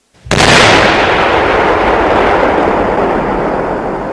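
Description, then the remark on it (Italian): A single loud explosion bursts in suddenly at a building's front door on a street, then rolls on as a heavy, broad roar and rumble that fades only slightly over several seconds, with no voices. “E fu in quell'istante il gran boato, il ferro e il fuoco, lo squarcio di ogni cosa, la rovina, lo strazio, il ludibrio delle carni, la morte che galoppa trionfante.”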